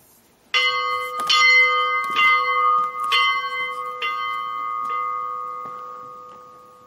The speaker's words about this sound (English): So, okay, it's Christmas, eh? So we should ring the bell, shouldn't we? Eh? Look at that, there's the bell. Well, let's go and ring it, eh? To end the show. There we go, the bell.